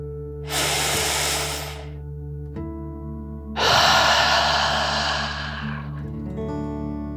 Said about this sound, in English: Before we begin our story, let's relax by taking a nice deep dragon breath. Breathe in through your nose, filling up your lungs, and then out through your mouth, imagining you are breathing fire like a dragon. Ready? Deep breath in and out.